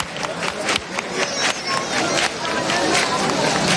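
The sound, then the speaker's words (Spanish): A crowd claps hands in a steady, rhythmic beat, sharp claps repeating quickly over a dense background of chatter and crowd noise, fairly loud; palmas calling to the Virgen del Rocío as her night procession begins passing the brotherhoods (hermandades) in Spain. “donde cada párroco, cada capellán, cada director espiritual le va a rezar esa salve y la van a llamar así, con estas palmas.”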